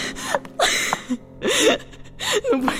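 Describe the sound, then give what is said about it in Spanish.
Ragged, panting gasps from a voice, three breathy heaving bursts in quick succession, each catching into a strained, whimpering tone before the next. “Jadeante, loca, deseando que se abra la tierra, se va acercando a la ventana.”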